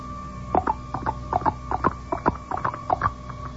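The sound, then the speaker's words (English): Quick paired taps repeat in a steady galloping rhythm, imitating a horse's hoofbeats clip-clopping along. The moderately loud tapping runs for a few seconds with no voices. “How about like this? Like a horse?”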